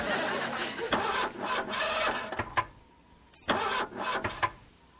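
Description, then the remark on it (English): A car engine with a seemingly dead battery cranks repeatedly without catching, two grinding, whirring attempts separated by a short pause, loud with no voices. “The battery seems to be dead. Try it again”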